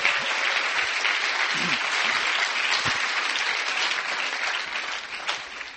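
Steady audience applause for the sound technician, a dense wash of many hands clapping at a fairly even loudness for several seconds, tapering slightly toward the end.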